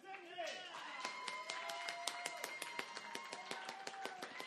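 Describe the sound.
A crowd claps in a steady, fast patter of many overlapping hands, moderately loud, with excited voices and cheering mixed underneath throughout, as an audience votes by clapping for Avengers: Endgame in a superhero film bracket.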